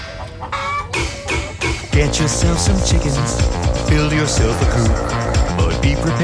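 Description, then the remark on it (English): Several chickens cluck in short, choppy bursts for about two seconds, then an upbeat music track kicks in loudly and buries them. “Get yourself some chickens.”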